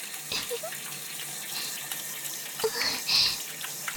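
A shower runs steadily for the whole clip, a continuous bright hiss of falling water with a few louder splashy surges near the end. No one speaks.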